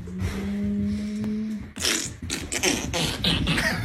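A dog farts as it goes down a set of stairs into a basement: a long, low buzzing toot, then a quick run of short, raspy bursts that fall roughly with each step.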